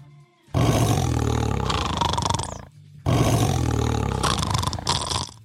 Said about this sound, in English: Here is a tiger. Ooh. That sounds like me snoring.